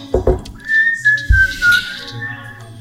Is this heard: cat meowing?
no